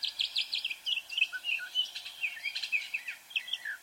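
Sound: northern mockingbird song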